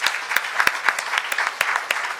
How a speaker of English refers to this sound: So thank you. So big round of applause for those folks that did that work.